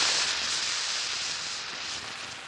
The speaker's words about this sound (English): Mmm, that's a steak sizzling on the grill.